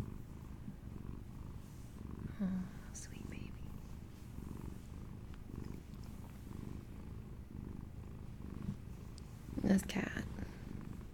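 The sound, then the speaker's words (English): A fluffy female domestic cat purring steadily, a continuous low rumbling drone with soft rhythmic pulses, accompanied by a couple of faint squeaky chirps and light rustling. “This cat kills me. She's so damn cute.”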